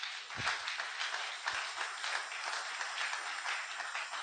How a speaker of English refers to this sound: You are smart. Clap for yourself.